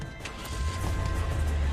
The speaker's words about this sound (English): then shoots a hanging light. The glass rains down.